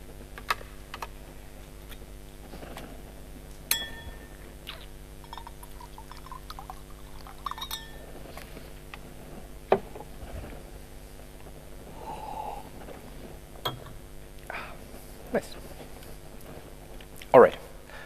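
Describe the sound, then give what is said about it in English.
Someone pauses to sip water: quiet clicks and knocks of a cup or bottle being handled, a brief soft pour-like gurgle, and small swallowing sounds, all faint and sparse, with no talking. “But first, I will have a short drink with some water somewhere here.”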